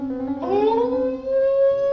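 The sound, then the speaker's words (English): A single long animal howl from the forest, unlike that of any husky dog, that swoops upward in pitch and then holds a steady, wavering tone, ringing clearly with no voices alongside. “From the forest came a call, distinct and more definite than ever before. A howl, yet unlike that of any husky dog.”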